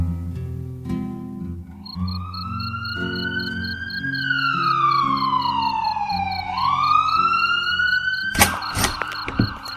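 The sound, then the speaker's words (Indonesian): A wailing ambulance siren rises and falls loudly over a low rumbling background, its pitch sliding as it sweeps past, ending in a few sharp thumps. The ambulance comes from the east side of a housing estate. “Ibu juga tidak tahu siapa, tapi ambulan tadi dari arah timur perumahan”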